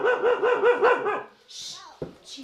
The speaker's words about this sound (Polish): I moje też dwójkę psów, są też moje dzieci, Sara i Taf. Taf, uspokój się.